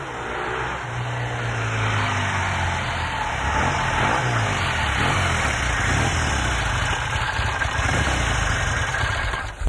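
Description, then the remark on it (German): A motorcycle engine runs steadily in the middle of the night, its loud throaty rumble rising and falling with revs throughout, with no voices. “Ja, bitte, komm doch, brauch doch mit deinem Töff da hin.”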